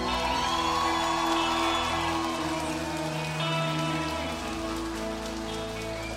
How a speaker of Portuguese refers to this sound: Então eu queria que vocês todos dessem uma salva de palmas para Porto do Sol.